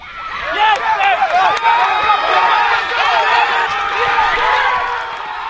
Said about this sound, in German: Der Jubel bei den Terwil Flyers ist nach dem Finaleinzug um die Schweizer Meisterschaft in der Nationalliga A gross gewesen. 7-6 gewinnen die Baselbieter daheim das entscheidende Spiel in den Halbfinals gegen den Erzfeind Zürich Challengers.